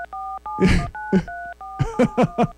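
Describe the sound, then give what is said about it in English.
A series of steady telephone keypad dialing beeps, several distinct tones in quick succession, broken up by short garbled bursts of voice-like noise over the line. “Sounds like a little speed dial issue there, maybe, on Mike's phone.”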